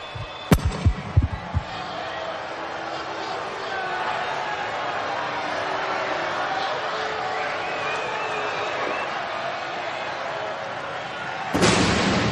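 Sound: explosions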